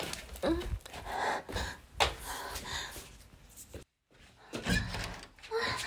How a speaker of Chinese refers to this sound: 你到了呀，姐夫。我去给你开门。